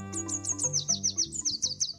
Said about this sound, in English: If you know how to distinguish it, the song of the red warbler is enough to tell you whether the morning is clear. No need to get out of bed or check the weather forecast.